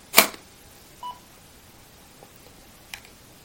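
A color tester, which also works as a light sensor, gives a few short electronic beeps at uneven intervals, signalling that light is detected, with a brief clicky burst at the start and quiet background between the tones.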